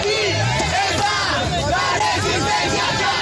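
A dense crowd in the streets of Colombia shouts and chants continuously for justice, many raised voices overlapping into a loud, steady roar of protest with no pauses.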